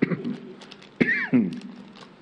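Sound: coughing and throat clearing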